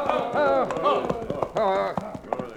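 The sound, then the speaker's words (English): Horse hooves clip-clop in a loose, uneven rhythm beneath voices as a marshal and his riders slow their horses among rocks, the hoofbeats partly masked by the louder talking over them. “There was no trail to follow, so the marshal slowed his own horse and turned in the saddle.”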